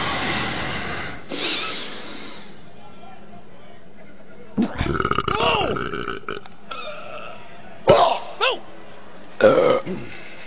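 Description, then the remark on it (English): A long, loud burp rumbles as a final attempt in a burping contest, stretching for a couple of seconds, followed by a few shorter bursts of burping and vocal noises with brief quiet gaps between them. “But I can beat that burp.”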